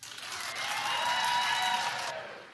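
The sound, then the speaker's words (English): A burst of audience clapping at a live comedy show, in answer to a call to clap, dense and steady at moderate loudness for about two seconds, then tapering off as it fades at the end. No one speaks. “All right, clap if you think she should suffer.”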